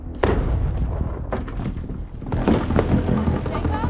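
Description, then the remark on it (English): A ghoul stomps heavily with one foot on a floor, three loud booming thuds spaced about a second apart, each leaving a deep low rumble that lingers between the hits. “The ghoul stomps with one foot.”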